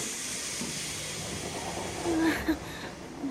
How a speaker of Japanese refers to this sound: しかしほんま、この時間の電車は混み混みやな。ぎゅうぎゅうのすすめでかなわんわ。